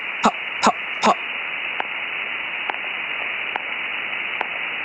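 A dense chorus of thousands of fish, each making single popping pulses with their swim bladders and sonic muscles, merges into a steady, hiss-like roar resembling white noise, with three loud pops near the start and fainter clicks spaced evenly afterward.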